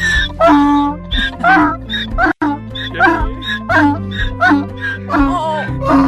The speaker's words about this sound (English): I mean, you know, you don't hear a donkey cry every day, do you? So the donkey's crying with joy that he's back? Yes, he is.